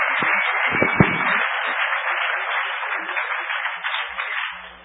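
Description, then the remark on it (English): An audience applauds the introduction of speaker Mitch Altman, a dense wash of many hands clapping that holds at an even level for several seconds before beginning to taper off at the end. “Give him a huge round of applause right now and when the talk is over.”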